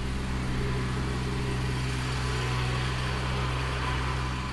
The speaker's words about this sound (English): So one day when I went to record at the Arboretum, I was a little bit frustrated because there was a lawnmower and I really wanted to record some of the softer sounds.